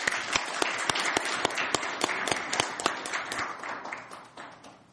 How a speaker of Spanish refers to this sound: Muchas gracias a todos. Damos por finalizada esta primera sesión de capacitación del ACRALO. Así que un aplauso para todos nosotros.